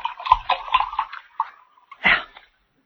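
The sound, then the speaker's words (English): Liquid glugs and splashes as a drink is poured to refill a small glass, a quick run of bubbly bursts followed by a pause and one last louder splash, fairly quiet. “I have to refill this little glass?”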